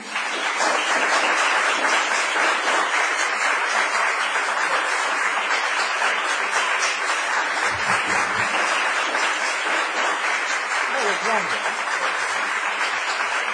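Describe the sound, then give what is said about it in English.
A crowd applauds loudly and steadily for over ten seconds after a speech about Shakespeare, a dense wash of many clapping hands, with a few brief voices calling out partway through. “That was longer than the applause of before the speech.”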